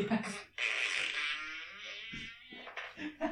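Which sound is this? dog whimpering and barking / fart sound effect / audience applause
fart sound effect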